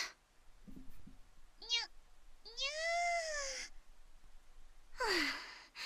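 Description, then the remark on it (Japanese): A voice imitates a cat, giving three meow-like calls: a short chirp, then a long drawn-out meow, and finally a breathy, falling mew, with soft breaths in between; the caller is herself called a cat, pretending to be a cat while hiding. “猫が猫のふりしてどうするのよ。”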